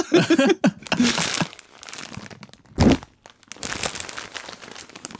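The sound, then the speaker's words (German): A bag is crinkled and crumpled, giving irregular bursts of crackly rustling over several seconds, with one sharp, louder crunch partway through. “Dann eine Tüte.”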